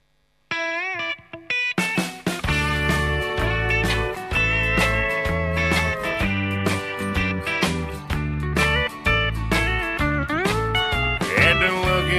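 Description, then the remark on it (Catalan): A song, the first single from a 2011 album, kicks in after a short sparse intro, then a full band plays loud and steady with a driving beat, strong bass and bright layered melody lines throughout. “publicat aquest 2011, i és un disc que ja té un primer senzill, que és la cançó que ara mateix us presentarem.”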